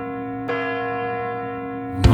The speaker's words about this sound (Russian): Новый год, часы 12 бьют.